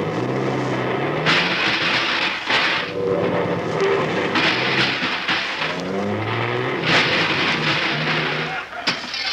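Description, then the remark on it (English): A large bus engine rumbles steadily, its pitch rising and falling as it creeps and shifts while parking between two cars, with recurring bursts of hissing noise layered over the drone. “Oh, I can get in between those two cars. I parked in a smaller space yesterday.”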